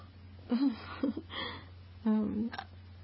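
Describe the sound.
A few small, voiced hiccups sound, each a short throaty catch separated by brief pauses, moderately loud over a low steady hum.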